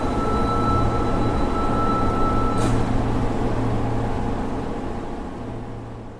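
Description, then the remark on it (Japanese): A steady, rumbling train interior sound with low mechanical hum and constant rail noise, continuing evenly throughout before easing slightly toward the end; no voices. “私は苦手な電車に乗って彼から言われた場所に向かっていた。”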